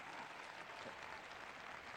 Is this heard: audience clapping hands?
yes